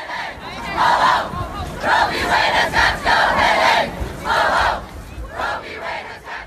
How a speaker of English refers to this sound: And what did that crowd want? Here's just a few of them, the March for Life rally in Washington Friday.